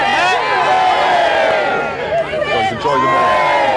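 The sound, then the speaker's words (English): A crowd of well-wishers near Buckingham Palace in London cheers loudly and continuously, greeting members of the British royal family including King Charles before his coronation, many voices shouting and calling over one another in a dense, high-pitched roar that dips briefly before swelling again. “Well-wishers greeting members of the British royal family, including King Charles, before his official coronation tomorrow at Westminster Abbey.”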